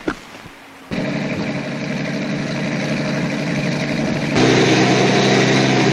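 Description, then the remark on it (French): A truck engine from the film Le Salaire de la peur, set in Las Piedras, South America, starts up after a brief quiet moment and runs with a steady rumble, growing noticeably louder and rougher toward the end. “Quatre hommes vont jouer leur vie au volant de ces camions.”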